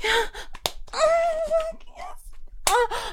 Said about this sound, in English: Slap my ass like that.